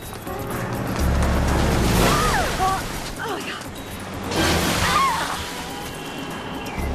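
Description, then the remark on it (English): Two cabs rush past one after another outside the Midtown Police Precinct in New York, each sending up a loud whoosh of splashing water from a big puddle, soaking a woman trying to flag down a taxi; she cries out during each drenching. “She tries to flag down a taxi but gets soaked twice by cabs driving past through a big puddle.”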